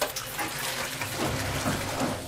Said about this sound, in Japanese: なんだか水と風のうなる音がしやせんか。 ここら辺には川も湧き水もねえだろ、気のせいだ。